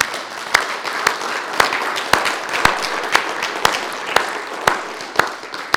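A crowd claps together in a steady rhythm as a round of applause for the Lord, sharp unison beats landing about twice a second over a continuous wash of scattered applause, fairly loud and with no voices.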